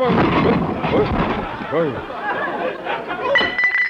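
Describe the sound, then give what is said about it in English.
A heavy statue of Caesar is accidentally knocked over, toppling and crashing with a loud rumbling smash followed by clinking, clattering debris, while excited voices cry out over the din. “Gosh, you accidentally knocked over old Conklin, Mr.”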